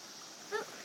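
A river stream flows with a soft, steady rushing wash. A brief, faint tonal chirp rises for a moment near the middle before the even water noise continues.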